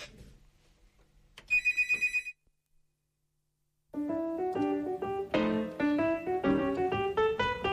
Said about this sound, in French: Voilà, Radio Libertaire, émission Chronique Hebdo, donc vous n'entendrez plus la sonnerie du téléphone, hein, c'est mieux.